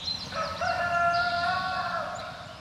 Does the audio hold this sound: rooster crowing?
yes